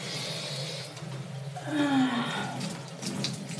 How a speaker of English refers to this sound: Because I'm just taking a shower. I'm not doing anything naughty. I'm getting clean.